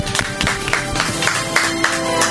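A studio audience applauds the candidates steadily, many hands clapping in a dense, continuous wash for a couple of seconds, with sustained tonal music sounding underneath.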